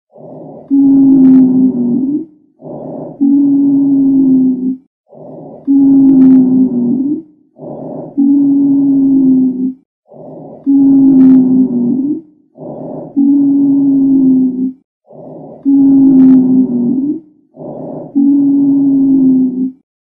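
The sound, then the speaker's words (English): A polyphonic wheeze heard through a stethoscope while auscultating the chest: a loud, low, musical whistling tone that sounds with every breath, in about eight steady bursts separated by brief pauses. No one speaks. “Here is an example of a wheeze during auscultation.”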